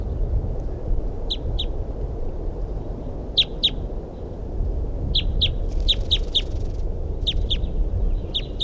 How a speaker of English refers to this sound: That's a crossbill there that I saw or heard. It's a female.